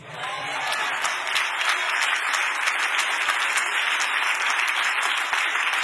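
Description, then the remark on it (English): A large church crowd during a sermon bursts into loud, sustained applause that holds steady for several seconds, with a few voices calling out within the dense clapping. “Come on, this is supposed to be my rainy day crowd that knows how to shout over a good point.”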